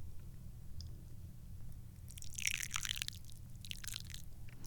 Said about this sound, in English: We got to do the knee pour, the famous tobe tea trick where we balance the tiny teacup on my knee and then pour tea into it.